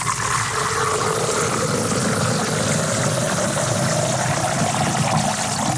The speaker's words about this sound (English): Pour it. Yeah, well, all right, I can pour the martini.